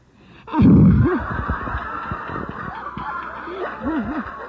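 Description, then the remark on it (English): A synthesizer patch mimics a weary coyote, producing droopy, wavering howl-like tones in short arcs over a buzzy, noisy backdrop, with a loud burst at the start and fainter wobbling cries later. “And this one's known as the Tired Coyote.”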